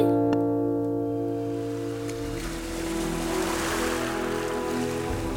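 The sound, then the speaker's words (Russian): Steady wash of sea waves as a small ship sails out into the open sea, with a low rumbling hum beneath, a continuous rushing surf that swells slightly midway, fairly loud, with no voices. “Кораблик вновь вышел в открытое море, и путешествие продолжается.”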